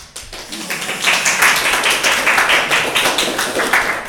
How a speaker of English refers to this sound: I don't know how other soloists feel. I really don't want the applause. Okay, all right. Well, no, I'm glad you appreciate it, but music. Don't applaud from here.